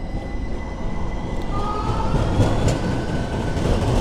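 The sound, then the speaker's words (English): A train rumbles steadily along the rails on 11th Street in the Pearl District of Portland, Oregon, at about 5 to 6 °C and 83% humidity, a loud, continuous low roar with faint metallic whining tones drifting above it, growing slightly heavier midway through. No one speaks. “Oh, no big hair dude today on the train.”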